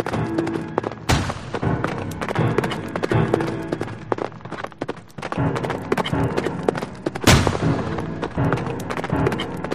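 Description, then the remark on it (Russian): Two heavy cannon blasts boom out, one early and one late, over a steady clatter of galloping hooves and rumbling background noise. “конь нес воеводу через перелески, пушка бабахнула еще раза три.”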